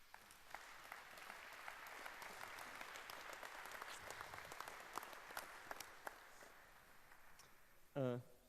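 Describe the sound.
Steady applause from an audience at a talk on knots, welcoming the speaker, a dense wash of many hands clapping at an even level for about eight seconds, before a voice begins speaking right at the end.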